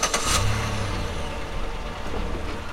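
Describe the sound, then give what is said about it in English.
A car engine rumbles steadily and revs up, with a brief burst of hiss at the start and no voices. “I used my car to pick up the witch doctor and his associate, and they're giving us direction to the village”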